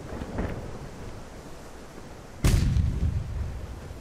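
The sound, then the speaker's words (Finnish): A single loud, heavy boom of a cannon salute fired from a ship leaving Stockholm, at about two and a half seconds, rolling into a low rumble that thunders between the cliffs and the city and lingers over steady background noise, with no voices. “Minun piti juosta hakemaan ruutia ja sitten tykit vieritettiin esiin. Ammuimme tervehdyksen, joka jyrisi kallioiden ja kaupungin välissä.”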